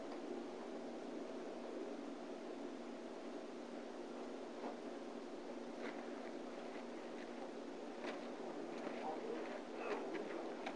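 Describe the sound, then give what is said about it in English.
A steady, hissing rustle of many Bible pages being turned at once on a Tuesday night as people turn to Psalm 17, with soft crisp flicks poking out here and there and growing more frequent toward the end. No one speaks. “It's good to hear the pages turning on a Tuesday night.”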